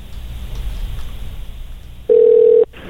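A low rushing hiss gives way to a single loud, steady telephone dial tone lasting about half a second, clean, then it cuts off abruptly.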